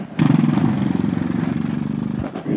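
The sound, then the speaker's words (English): A long, buzzy lip trill (horse lips) during a yoga flow: a breathy exhale through loosely flapping lips, making a steady, motor-like rattle for about two seconds before it tapers off with a short puff. “Take one more breath here and now horse lips.”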